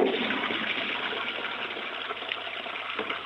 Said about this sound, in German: Das war die Klospülung.